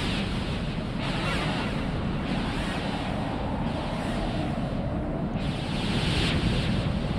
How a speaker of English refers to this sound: The energy storm. Swept right by us. Ignored us like we weren't even here.